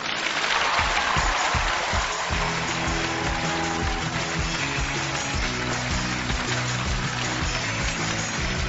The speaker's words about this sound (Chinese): 好了，大家鼓掌结束，我的演讲也结束了，谢谢。